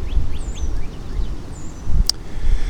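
Wind rushes steadily through the leaves of a very large cottonwood tree in a continuous rustling wash, with low gusty rumble underneath, faint bird chirps and one sharp click near the end.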